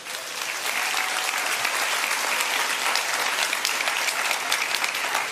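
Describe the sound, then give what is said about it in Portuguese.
A crowd claps steadily for several seconds, dense and even applause with no pauses, loud throughout and no voices rising above it. “Olha aí, menos de 12 anos, Absalão, palmas para ela.”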